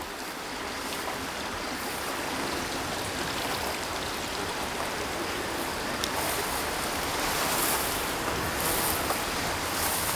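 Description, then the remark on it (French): Strong gusts of wind roar steadily in a dense, hissing wash of noise over a peat-bog wetland, swelling slightly toward the end, with no voices present. “Beaucoup de rafales de vent.”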